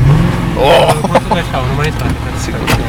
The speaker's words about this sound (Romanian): Stai puțin că aici suntem într-o mașină sport. Da, e o mașină de 450 de cai. Oh, la, la, la, la. Da, este un Audi 4 RS3 de numai 450 de cai, pilotat în această dimineață doar pentru mine